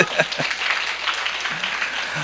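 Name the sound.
clapping hands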